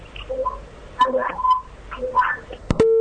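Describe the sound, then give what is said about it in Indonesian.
Muffled, crackly voices of a caller from Lombok come through a phone line into a broadcast call-in, then a sharp click cuts in and a steady, loud electronic tone of a disconnected call begins right at the end. “Terputus, mohon maaf.”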